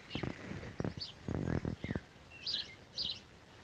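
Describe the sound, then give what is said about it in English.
Morning dawn chorus birdsong outdoors at the Belgian-French border near Charleroi: a few bright, high chirps and short trills ring out amid scattered harsher bursts and rustles, moderately loud, with no voices. “we had asked you during the morning to send in the dawn chorus on WhatsApp”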